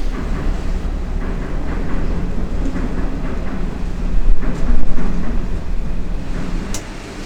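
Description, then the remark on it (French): A deep, continuous rumble of engines, swelling noticeably louder for a couple of seconds as the engines come back up to power, then holding at a heavy, steady roar. “Là, on entend bien les moteurs là qui redonnent. Ah, là, on entend la puissance qu'on a.”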